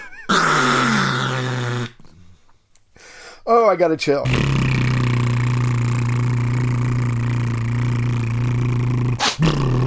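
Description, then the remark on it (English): Lips buzz rapidly in a deep, steady droning hum like a didgeridoo, held for several seconds after a short burst of speech; the imitation is loud and rumbling with a constant low pitch. “And then you vibrate them rapidly like this.”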